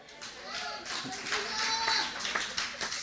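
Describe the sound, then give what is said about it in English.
A handful of sharp hand claps ring out at an uneven pace, mixed with breathy hissing and a person's voice, fairly loud. “Sometimes you just got to clap your hands and hiss the enemy away.”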